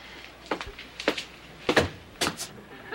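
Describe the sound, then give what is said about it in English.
A door shuts with a series of four sharp knocking and rattling bursts spaced about half a second apart, fairly loud against a quiet background with no talking. “You let the door close!”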